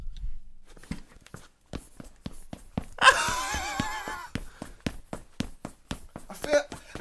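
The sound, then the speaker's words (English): New trainers, bought online, squeak with each step in a steady walking rhythm, broken midway by a longer, high wheezing squeal like air pumped into a bike tyre, then more quick squeaky footfalls. “Sound like I'm blowing a fucking bike tire up every time I walk anywhere, which is just fucking ridiculous.”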